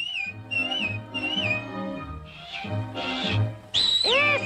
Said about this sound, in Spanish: Le diría que tiene que como poner los labios en para decir U. Y soplar para afuera. Intentar soplar, pero muy, muy poquito. Silbar es divertido. ¿Por qué no lo intentas?